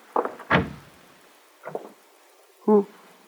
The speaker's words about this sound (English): While I prayed there by the kitchen stove, there came a knocking. Who is it? Is this the house of Mendel Singer? Yes. I'll open the door.